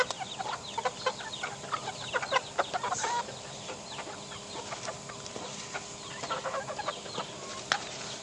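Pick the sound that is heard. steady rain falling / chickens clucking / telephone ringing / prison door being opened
chickens clucking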